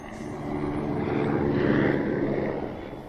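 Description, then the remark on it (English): A helicopter drones overhead, its low engine and rotor rumble swelling toward the middle as it passes, then easing slightly, heard alone without any voices. “Helicopter.”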